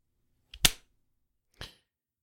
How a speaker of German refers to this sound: Hast du geklatscht? Ich hab geklatscht, hast du geschnipst? Ich hab geschnipst. Nee, hat man nicht gehört. Man hat dein Klatschen nicht gehört.